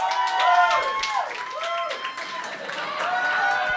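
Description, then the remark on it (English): A live audience, many of them wrestling fans, claps steadily while whoops, cheers and a few whistles rise above the applause, a dense, fairly loud crowd roar that holds for a few seconds. “And we got a lot of wrestling fans in the crowd today.”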